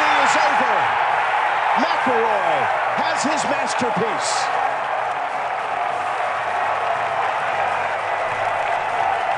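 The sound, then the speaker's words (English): A golf gallery erupts in a loud, sustained roar of cheering and applause that holds steady throughout, while a voice speaks over it during the first few seconds. “That's a good crowd pop, though, too.”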